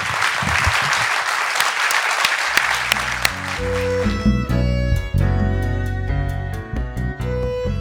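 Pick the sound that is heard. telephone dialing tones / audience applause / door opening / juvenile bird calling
audience applause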